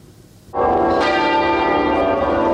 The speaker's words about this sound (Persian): روز جمعه صدای ناقوس کلیساها و شلیک توپ‌ها در سراسر بریتانیا از پایان 70 سال سلطنت ملکه الیزابت دوم خبر دادند.